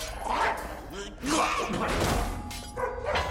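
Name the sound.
caged dogs barking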